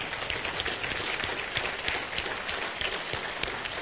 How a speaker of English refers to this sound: Let's give the guests the applause they deserve.